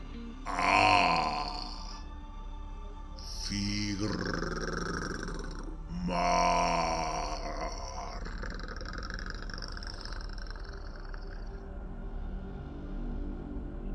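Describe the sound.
Three throaty, pleased-sounding grunts in a row, each a short voiced burst with a low rough tone, made by a human voice and followed by a quiet lingering tail.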